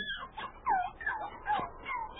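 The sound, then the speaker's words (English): Newborn puppies, three of them with eyes not yet open, in a box behind bushes near a trail, whimper in a series of high, wavering whines, four or five short cries rising and falling in pitch, fairly soft and with no talking over them. “That sounds like a puppy.”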